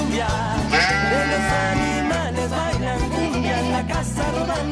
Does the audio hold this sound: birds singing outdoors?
no